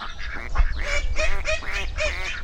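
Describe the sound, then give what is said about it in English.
Ducks quack over and over in a steady, overlapping chorus of nasal calls, fairly loud, with a low outdoor rumble underneath and no one talking. “Let's give the ducks some bread.”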